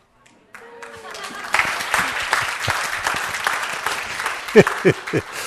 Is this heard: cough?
no